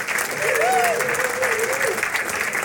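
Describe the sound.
A large crowd claps loudly and steadily throughout, a dense wash of applause with a single voice briefly whooping or calling out above it.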